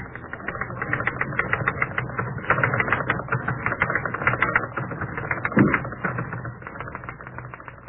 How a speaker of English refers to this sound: The race between the tapping of the typewriter keys and the ticking of the red second hand on the clock began.